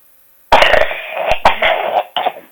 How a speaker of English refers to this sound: Sorry. You okay? This cough has come back. Oh. Do you have a cough drop?